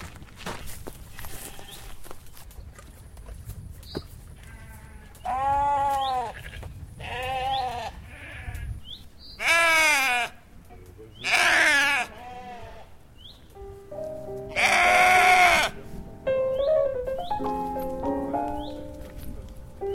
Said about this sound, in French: Et là, c'est toutes vos brebis, là? Ouais. Alors là, il y a des brebis et puis il y a des agneaux qui sont à côté, là-bas.